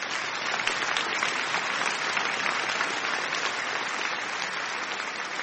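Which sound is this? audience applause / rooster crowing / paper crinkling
audience applause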